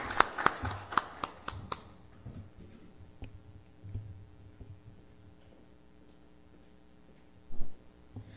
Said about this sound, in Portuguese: Peço aí uma salva de palmas para o nosso empossado.